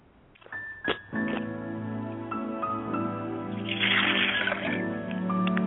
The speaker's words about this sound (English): I'd like to pour a glass of water on behalf of my father's spirit.